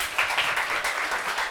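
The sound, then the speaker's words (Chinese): A church audience claps together in a dense, steady burst of applause to thank the pastor. It holds at an even, moderate loudness for the whole moment, with no one talking over it. “我们再次用热烈掌声谢谢牧师好吗？”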